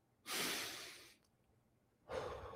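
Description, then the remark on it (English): A long, deep breath drawn in as a breathing exercise, a brief pause, then the start of a slow exhale. Soft, airy and unhurried, with no talking. “But if you're overstimulated, if you feel overwhelmed, try some breathing.”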